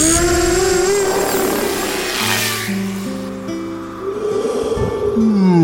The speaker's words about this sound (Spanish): Una pequeña ráfaga de viento despierta al hombre dron, que alarmado ve cómo sus drones se alejan y desaparecen en la oscura noche.